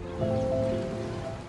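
Waves on a stony seaside beach by a seafront promenade: a steady wash of surf, a soft continuous roar that swells slightly and then eases, with a faint tonal hum running underneath.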